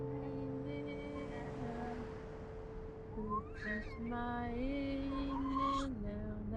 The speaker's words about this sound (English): cars traverse a winding mountain road.